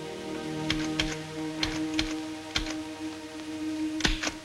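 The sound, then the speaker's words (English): Irregular clacking keystrokes from a typewriter used by a nurse in a waiting area, a few sharp strikes in loose bursts, over a low steady background hum with no voices. “In the waiting area, Nurse Wainwright sits at a typewriter.”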